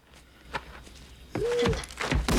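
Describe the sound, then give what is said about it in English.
A few soft, spaced footsteps land on a hard surface, followed by heavier, louder thuds and scuffing, with a brief low tonal sound mixed in. “He hears footsteps.”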